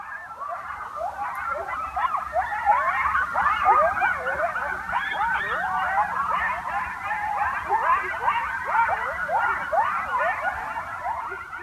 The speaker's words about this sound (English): You recorded the sound of some coyotes. We've got it here. Let's listen.